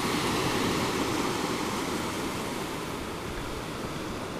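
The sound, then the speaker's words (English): Ocean surf at Santa Barbara rolls in and out in a steady, continuous roar, a broad hiss of breaking water that stays fairly even and fades slightly toward the end, on a beautiful, slightly hazy day, with no voices present. “I have to say, it's a very beautiful day here, sitting on the oceanside, watching and listening to the surf roll in and out.”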